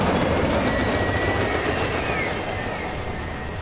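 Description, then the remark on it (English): A Chicago elevated train rumbles and rattles loudly along the tracks at Adams and Wabash, steady throughout, with a faint metallic squeal rising briefly from the wheels. No one speaks. “I will always be lulled by the city's lurching trains.”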